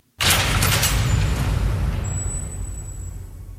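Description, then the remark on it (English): A heavy vault door slams shut with one sudden, loud booming impact, followed by a deep rumbling resonance and a thin metallic ring that slowly fades. No voices. “Or, as you pointed out, it sounds a lot like a cell door closing.”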